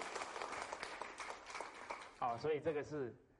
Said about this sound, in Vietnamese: Tốt rồi, cảm ơn anh. Xin cho anh ấy một tràng pháo tay.